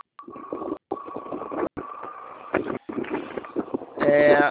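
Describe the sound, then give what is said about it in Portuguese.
Rough, gusty wind buffets the microphone of a man riding a motorcycle while talking on a phone call, loud, with brief dropouts and his muffled voice partly buried beneath the roar. “Você vai falando que eu estou andando Obrigado. de moto, viu?”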